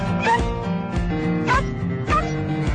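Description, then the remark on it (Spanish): Dogs bark along to an upbeat song, their yelping cries rising above the music three times at roughly even intervals, loud. “Que tenemos hasta perros cantantes y por eso hoy, para hablar de animales, de compañía, para hablar de perritos y de gatitos, nos ha encantado esta canción.”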